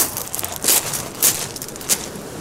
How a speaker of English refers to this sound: we're going to record more footstep sounds